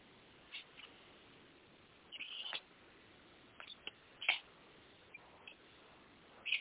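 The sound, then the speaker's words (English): Faint coyotes yip and cry in scattered short bursts, a few overlapping calls rising over a steady background hiss, with no one talking. “Coyotes.”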